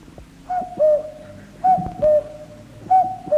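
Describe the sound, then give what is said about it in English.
A person in Haddenham mimics a cuckoo, whistling or hooting three clear two-note calls, each a higher note dropping to a lower one, repeated at a steady pace with short gaps, fairly loud. “Well, should we say the cuckoo or the wood pigeon? The cuckoo.”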